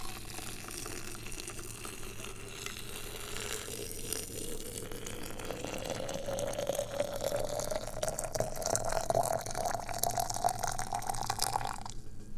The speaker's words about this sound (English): Okay, so we're killing the heat on the water. And we get this magic towel ready so I don't burn my hand off. We grab the water boiling vessel and we start pouring the water into the magic carafe. Here we go.